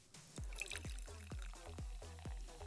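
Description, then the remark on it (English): Champagne pours from a bottle into a glass in a rapid series of about half a dozen rhythmic glugs, with a light fizzy splash above them and no one speaking. “You chugged that champagne like it was water. Are you nervous? Here, give me your glass.”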